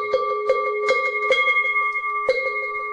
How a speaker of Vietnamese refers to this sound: Khi thỉnh này là chúng ta ba hồi chuông, hai hồi xuống và một hồi lên.